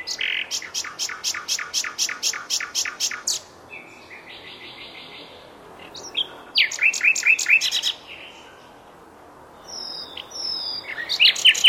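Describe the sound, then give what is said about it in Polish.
A common nightingale, of the kind heard along the walking path in Lipówka, Poland, in May and June, sings alone, clear: a fast run of repeated notes, then a buzzy trill, bright whistles and a rich chattering phrase, separated by short pauses. “Ptaki spotykane przy naszej ścieżce to słowiki rdzawe. Posłuchajmy ich śpiewu.”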